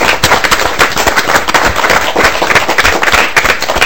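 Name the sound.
audience applause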